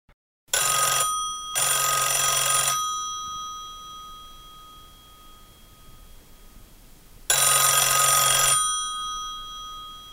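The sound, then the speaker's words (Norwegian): A telephone rings in three bursts, two quick ones close together, then a long pause before a third, before an answering machine picks up. The electronic trill sounds bright and clear, with no one speaking. “Du har kommet til familien Olsen. Vi kan ikke ta telefonen akkurat nå, men legg igjen en beskjed.”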